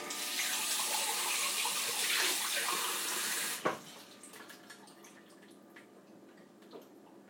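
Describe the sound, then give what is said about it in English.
Someone gets a drink of water: water runs steadily from a tap into a vessel for about three and a half seconds, a broad rushing hiss, then stops with a small clunk, leaving faint clicks and light handling sounds. “Again, I'm just getting a drink of water.”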